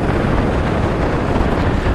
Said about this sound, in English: I'm on Brighton Pier at the minute, in a massive storm, and I've never seen waves that big. I mean, they're literally... The sea looks like peanut butter, it's so brown. But the waves are literally just feet below me.